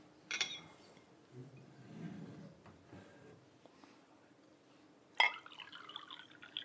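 A glass clinks near the start, and after a quiet stretch another clink is followed by a short splashing trickle of water being poured into the glass, fairly soft.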